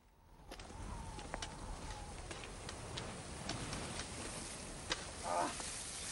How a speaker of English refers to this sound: is struggling with fish in a frying pan.